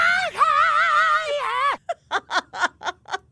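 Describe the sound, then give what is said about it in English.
An isolated rock singer's scream: a loud, sustained, wavering high-pitched cry lasting nearly two seconds, then five short, sharp vocal bursts in a quick rhythmic run, with no backing music. “Here's another one of his screams isolated.”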